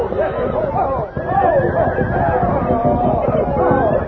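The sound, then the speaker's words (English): Several palomino horses, whose 18 cowpuncher riders cannot control them, whinny and snort amid a busy, crowded din in Antelope Basin, with rising and falling neighs layered over a steady rumble of movement and commotion, fairly loud. “18 cowpunchers discovered they couldn't control their palomino horses.”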